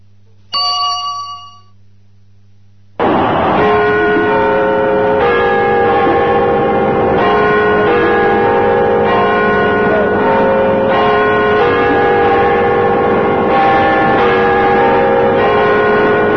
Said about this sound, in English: The year 2000 has arrived in Britain. When the chimes of London's Big Ben signaled midnight, huge crowds cheered as spectacular fireworks displays went along several kilometers off.